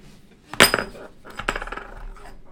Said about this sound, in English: Oh, I chipped it. Broken glass. Careful. My bad.